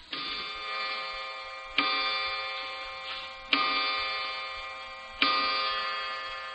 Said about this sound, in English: Clock striking.